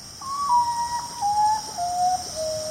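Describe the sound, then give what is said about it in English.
A common potoo, a nocturnal bird of tropical Central and South America, gives its mournful call: five clear whistled notes stepping steadily downward in pitch, each held briefly, over a steady hiss of night insects. “The common potu, a nocturnal bird of tropical Central and South America.”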